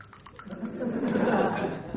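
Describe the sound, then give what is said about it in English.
Clatter of dice being shaken and thrown again after rolling a 6, during a round of the board game Bordo: a few quick clicks, then a steady rattling roll that lasts about two seconds. No voices. “so I can throw again.”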